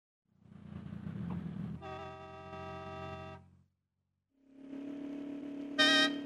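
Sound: car horns honking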